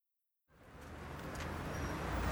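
After a short silence, street traffic noise fades in: a steady rushing rumble of road vehicles that grows louder and closer, as if a car is approaching. No one speaks.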